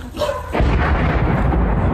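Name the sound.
explosion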